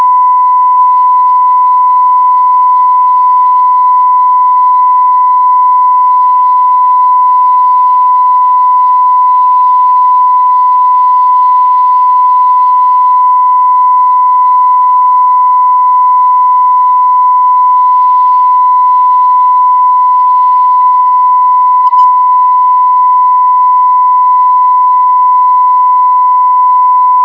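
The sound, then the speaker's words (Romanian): A steady, unbroken whistling radio carrier tone holds one high pitch for the whole stretch, with a fainter harmonic above it and a thin hiss of static underneath. No voices come through. “Doar începutul a fost, restul a fost o purtătoare șuierată și cam atât.”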